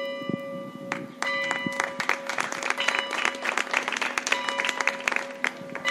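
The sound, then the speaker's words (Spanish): Outdoor applause from a crowd in the town square of Hoyo de Manzanares, steady and dense, in memory of a local resident who died, while the square's clock bells ring in sustained tones beneath the clapping throughout. “Únicamente el sonido de las campanas del reloj de la plaza Hoyense y los aplausos rompían el silencio.”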